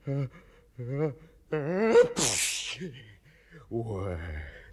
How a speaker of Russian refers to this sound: Будьте здоровы, сеньор.